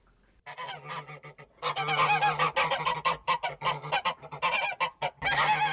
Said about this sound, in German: In einem kleinen Gänsestall am Rande der Stadt ist diese Unruhe auch angekommen. Aufgeregt schnattern die Gänse durcheinander.